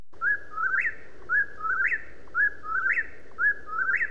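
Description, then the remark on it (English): A whippoorwill sings its three-part whistled call over and over, four quick repetitions about a second apart, clear against a low background hum. “They are now rare here, but once our hills were filled with whippoorwills.”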